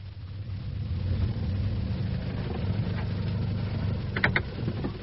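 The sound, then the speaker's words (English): A car drives steadily back to a motel, its engine and road noise forming a continuous low rumble, with a couple of brief high squeaks near the end and no voices. “I drove back to the motel, determined to tell John everything.”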